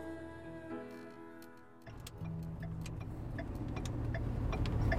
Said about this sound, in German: Zurück im Bus.